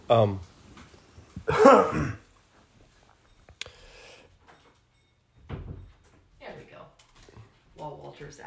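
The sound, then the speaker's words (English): A door is pushed shut: a broad scraping thump, then a sharp latch click a moment later, with muffled voices and shuffling movement before and after. “I'm going to go shut this door, if you could hold that for a second.”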